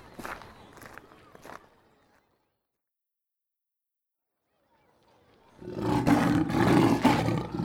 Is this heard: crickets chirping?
no